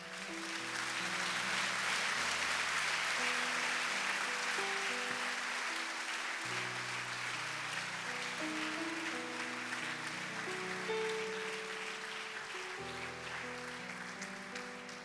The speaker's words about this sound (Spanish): Demos un aplauso a nuestro Rey.